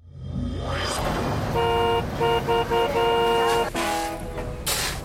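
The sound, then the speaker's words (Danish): Car horns honk repeatedly in a traffic jam over the low rumble of traffic, a few short blasts followed by longer sustained ones, loud, with no talking. “Nu skal vi altså ud, hvor det gælder ud i trafikken, der hvor der virkelig er kø og alt for mange mennesker lige i øjeblikket.”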